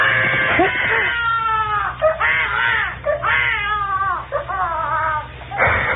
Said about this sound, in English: That's the most frightened I ever was in my life. When a kid started to yell. Because in the first place, I didn't know what it was right away. And in the second place, I thought, he'll wake up everybody in the apartment